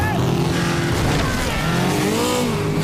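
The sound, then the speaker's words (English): A speedboat engine roars loudly and steadily at high revs, its pitch climbing and wavering for a few seconds as the boat speeds head-on at two inflatable boats during a boat chase. “He speeds at the two inflatables head-on.”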